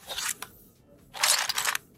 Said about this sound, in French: Allez, je vous dis pas quoi, je vous passe un petit indice. Quelqu'un qui ouvre un carton.